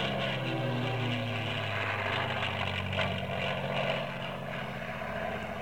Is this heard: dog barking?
no